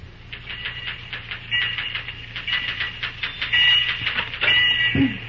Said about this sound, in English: As our scene opens, we find Cary Graham busy at the typewriter in the superintendent's office.